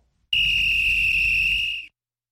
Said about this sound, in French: C'est le coup de sifflet